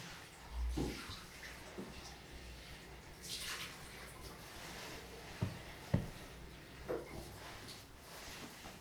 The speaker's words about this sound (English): You just come with me to the bathroom while we get your water for your bath, for your wash before your nap time.